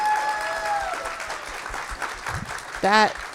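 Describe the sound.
Dense, steady clapping from a small group runs throughout, with a sustained high-pitched voiced tone early on and a short rising whoop near the end.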